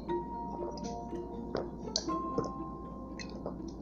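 speaker drinking water

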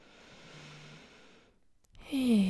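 deep inhalation

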